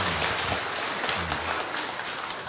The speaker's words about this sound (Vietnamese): Xin dâng lên Chúa mẹ một tràng pháo tay tạ ơn Chúa.